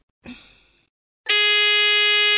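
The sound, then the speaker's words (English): Two quiz buzzers, triggered by contestants pressing buttons on their phones, sound one after the other: first a short, fading electronic blip, then a loud, steady, harmonically rich buzz that holds to the end. No one speaks. “To answer, they press any button on their phone and we'll hear a buzzer.”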